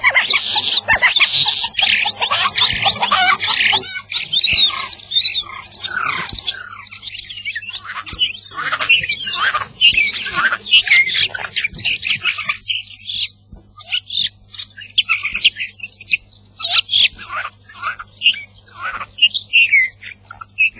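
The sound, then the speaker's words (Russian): A starling sings a long, busy medley of chattering, clicks and high whistles, including sounds like domestic hens clucking, dense for the first half and then breaking into shorter bursts, with a faint steady low hum underneath. “можно судить о том, что он общался со многими птицами, перенял их голоса, и не только с птицами дикими, а он жил где-то среди, несомненно, людей, потому что в его песне часто слышатся звуки, которые издают с нашими курами, кудахтами.”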